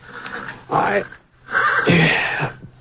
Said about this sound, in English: It was getting on toward dawn when I... one of the horses down the corral was sure upset about something.